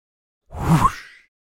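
A single quick swoosh transition effect, a brief airy sweep that swells and fades in under a second, heard alone with no voices.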